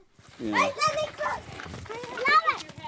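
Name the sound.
children playing outside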